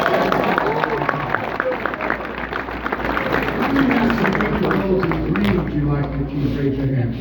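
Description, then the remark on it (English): A crowd, asked by the speaker to give themselves a round of applause, claps steadily for several seconds, a dense, even patter of many hands mixed with cheering and excited voices throughout. “And I want you to give yourselves a round of applause, please.”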